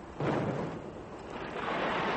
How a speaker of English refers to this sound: what is that noise I hear up above? That was in order to take out the ore. It was an explosion. It was an explosion, yes. What, a dynamite? Dynamite, yes.